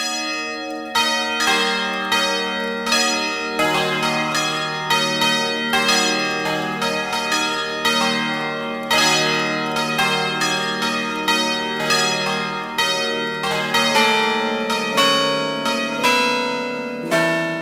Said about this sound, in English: unmatched realism of a swinging bell provides the community with a traditional call to worship. The swinging bell is provided in various sizes and keys of peals, ideal for weddings and other festive celebrations.